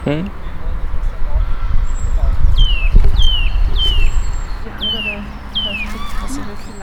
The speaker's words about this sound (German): Jetzt hört man hier nochmal einen Kleiber ganz laut.